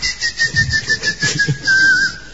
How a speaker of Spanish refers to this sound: El silbar del boyero que mientras fabrica bollas chifla.